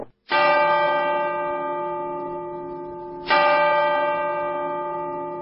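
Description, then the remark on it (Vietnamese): A clock striking ten o'clock chimes with deep, resonant bell strokes: two loud strikes about three seconds apart, each ringing out with a long, shimmering decay, and no voices. “Đồng hồ đã gõ 10 giờ.”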